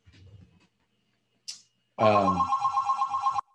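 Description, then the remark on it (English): An office desk telephone gives one loud ring, a rapid trilling burst lasting over a second, preceded by a short sharp click and a faint murmur of voice. “Sorry, I don't know why I have a phone in my office. All I do is pick it up and hang it up.”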